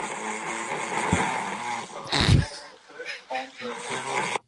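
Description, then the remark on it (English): A person snoring in a raspy, gargling rhythm, with a louder rough snort near the middle, fairly loud. “I'd like to compare, somebody's snoring my wife's snoring.”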